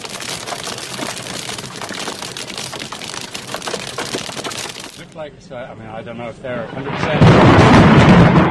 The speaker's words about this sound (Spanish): tenemos un sonido de cómo caía la granizada desde una de las cabinas que había en meta y también cuando realizaban una entrevista a Chris Froome, el trueno que le ha sorprendido durante la entrevista.